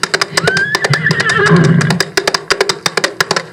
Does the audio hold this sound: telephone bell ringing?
no